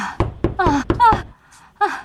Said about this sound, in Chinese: 啥事啊？敲门敲的那么大声。